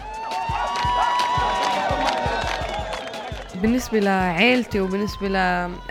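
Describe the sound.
A crowd of a racer's fans cheers loudly, with scattered claps and a dense wash of voices, followed by several high, sustained shouts and whoops rising above the din.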